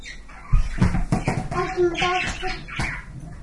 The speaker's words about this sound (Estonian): Kus ta veereb? Veereb niimoodi pallikene.